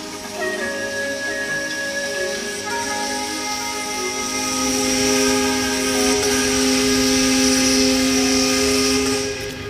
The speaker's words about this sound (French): La sirène saluait le jour naissant et l'entrée au port, Marseille.